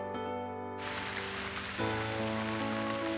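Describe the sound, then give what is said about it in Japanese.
Heavy rain pours down in a dense, steady hiss that swells in after a brief moment, with sustained musical tones droning underneath and no voices. “強い雨、すべてを洗い流すような雨。”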